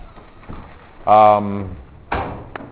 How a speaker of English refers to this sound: Well, that door's open. You just have to really push down on that little lever.